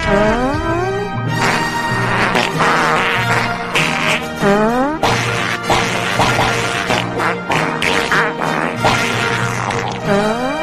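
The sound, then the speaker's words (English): A person farts a whole song: a loud, continuous run of buzzy blasts that swoop up and down in pitch, strung together into a bouncing tune. No one speaks over it. “They would actually fart a whole song.”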